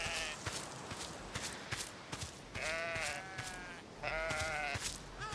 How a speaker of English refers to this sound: Oh, he didn't like that. It made some unhappy sheep sound. I think it did.